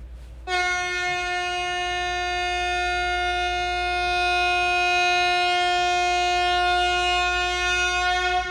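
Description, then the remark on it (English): A single loud, sustained horn blast, sounded as a birthday greeting, begins about half a second in and holds steady for roughly eight seconds, a bright harmonic-rich tone over a low rumble, with no talking. “That was my big honk to all the birthday people.”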